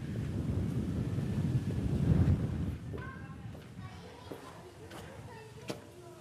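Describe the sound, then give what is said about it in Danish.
Strong wind buffets the microphone outdoors by Højhuset, the area known as Lilletorv in Tingbjerg, in a loud, low roaring rumble for the first few seconds, then eases to a steadier gusty hiss with faint voices faintly audible underneath. “Jeg blæser virkelig i dag.”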